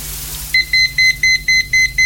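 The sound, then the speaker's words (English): A liquid level indicator with three prongs set inside a cup beeps as water poured onto gravy granules touches its long prongs, a steady, rapid series of about seven short, high-pitched electronic tones, each evenly spaced, sounding alone with no talking. “They're the sort of sensors, So when you put your gravy granules in, you add your water, and this happens when it touches the long prongs.”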